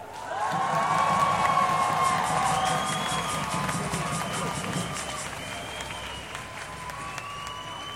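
An audience claps steadily for two women of the Azadi collective opening the programme, with cheers and whoops rising over the applause. It starts loud and fades slightly toward the end, the clapping dense and continuous throughout.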